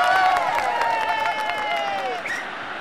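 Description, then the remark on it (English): A large football crowd applauds in relief as an injured player is stretchered off and lifts an arm to them. Dense, steady clapping is mixed with a few sustained voices calling out over it. The clapping holds fairly loud, then thins out toward the end. “But as they stretcher him off, he lifts a heavy arm up to the crowd and we clap, relieved.”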